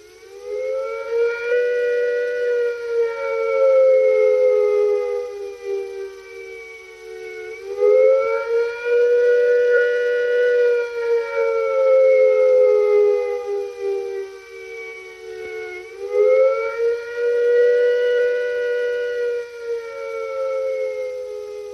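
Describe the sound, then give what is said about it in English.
A loud British civil defense nuclear attack warning siren, from a public information film, signals an expected attack. It wails steadily, its pitch rising and falling in slow, long sweeps about every eight seconds, sounding on its own with no voices. “If an attack is expected, the sirens will sound a rising and falling note like this.”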